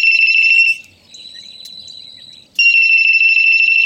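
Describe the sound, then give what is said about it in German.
A starling mimics a mobile phone ringtone: loud, steady electronic-sounding trilling tones, broken by a short, quieter, whistly phrase before the ringing resumes, with no other sounds around it. “Sie können zum Beispiel andere Vögel oder bellende Hunde imitieren. Und sogar Handyklingeltöne.”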